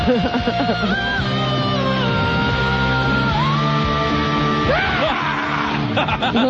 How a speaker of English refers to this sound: Oh, this she listen to this horrible scream she starts it with. It's like Howard Dean.